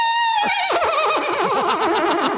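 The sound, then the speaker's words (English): A loud horse whinny sound bite bought off the internet: a high, steady cry that breaks into a quavering, rapidly trembling neigh sliding down in pitch over about two seconds, heard alone with no talking. “the next song were these sound bites I had bought off the internet, and one was a horse.”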